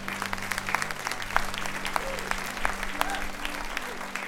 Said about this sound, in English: God, let's give a round of applause for what God has done tonight here.